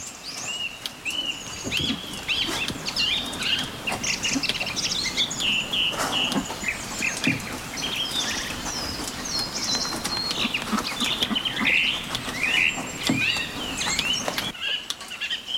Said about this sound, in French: Ce matin, plus loin dans la campagne cévenole, les grives s'en donnent à cœur joie.